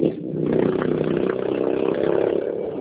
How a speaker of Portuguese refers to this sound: Passou uma moto aqui, eu não escutei nada.